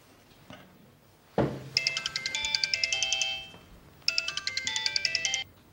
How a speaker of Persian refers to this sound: چرا تلفنتون جواب نمیدین؟ تلفن من نیست. تلفن من هم نیست. پس مال کیه؟ حتما مال توی دیگه. نه خب پس حتما تلفن هیچ کسی نیست. ببخشید من گوشیم رو جا گذاشتم.